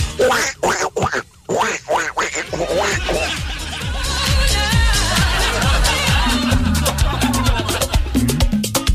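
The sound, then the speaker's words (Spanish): A duck quacks loudly and repeatedly in quick, uneven bursts, continuing for several seconds over a busy, layered background of other sound. “¿Qué le dijo el pato a usted?”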